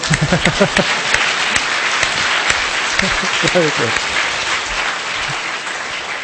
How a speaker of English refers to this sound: And if you're going to clap, clap properly. Come on.